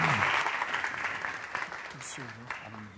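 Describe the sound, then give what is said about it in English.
An audience breaks into steady applause as Dr. Keller is introduced, a dense wash of many hands clapping that slowly thins, with a few voices briefly audible over it near the end. “So why don't you guys give him a round of applause, we'll pray him up, and send him to work.”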